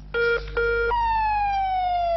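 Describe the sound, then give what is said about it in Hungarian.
An ambulance siren blares loud in Budapest during a heat wave, starting with two short two-tone bursts, then a long steady wail whose pitch slowly falls as the vehicle passes by, with no voices; the paramedics are heading to the ring road for a man taken ill on a tram. “Ezt a hangot a hőség miatt szerdán az átlagosnál sokkal többet lehetett hallani. A mentősök éppen a körútra mennek, ahol a klíma nélküli kombinón lett rosszul egy középkorú férfi.”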